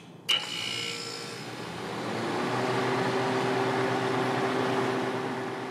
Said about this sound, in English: The droning of the condenser fan matches the most annoying vending machine at the bus stop, and it will run the whole time.